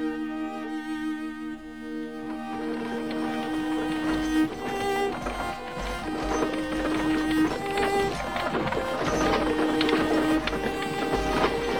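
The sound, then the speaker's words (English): A busy clatter of horses' hooves and rolling wagons coming down the main street builds steadily and stays loud, a dense rhythmic rattle mixed with sustained tonal sounds, with no clear talking. “Wagons and horses.”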